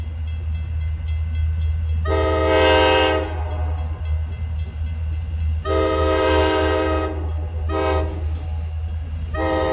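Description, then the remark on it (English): A train rumbles steadily on the railroad tracks along the Mon River by the steel mill in Braddock while its horn sounds three times, two long blasts and a shorter one, loud and harmonic over the low, continuous roll of railcars. “Right around here along the Mon River, where the railroad tracks and the steel mill are now, this is where General Edward Braddock and his men were wiped out by the French and Indians back in 1755.”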